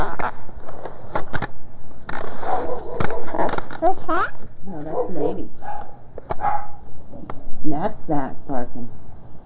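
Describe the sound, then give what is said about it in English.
A dog barks and yelps in a series of loud bursts as a ball is thrown for it, with sharp clattering knocks scattered between them and a person talking at times. “He's barking.”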